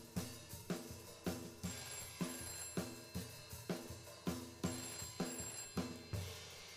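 telephone ringing

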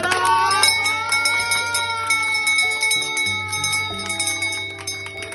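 bell rung three times

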